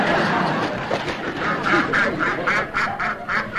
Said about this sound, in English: the duck. He's eating the snail.